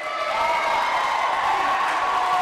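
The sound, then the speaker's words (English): A large crowd cheers and claps loudly and without a break, a dense, sustained roar of voices and applause echoing through the gym at the Pioneer Charter School of Science in Everett, applauding 2010 Nobel Prize-winning economist Peter Diamond. “Judging by the raucous cheering, you might think a rock star just walked through the gym at the Pioneer Charter School of Science in Everett.”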